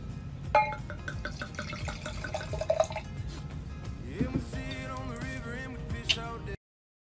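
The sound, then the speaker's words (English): Glasses clink together a few times in a toast in sharp, ringing taps, mixed with sloshing and pouring liquid, with no voices. “Cheers to that.”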